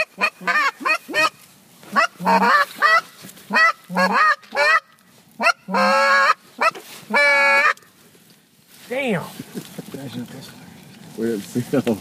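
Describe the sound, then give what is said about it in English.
A flock of about 100 geese flying in a V formation honks loudly and continuously overhead, many overlapping calls in rapid bursts, with a brief lull before more honking resumes. “There is about 100 geese flying in a V right in front of us. And they're heading this way.”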